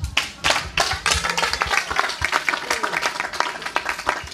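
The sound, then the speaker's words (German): An audience applauds steadily, many hands clapping in a dense, crackling wash that holds its level throughout without any voices standing out. “Erstmal nochmal einen ganz großen Applaus”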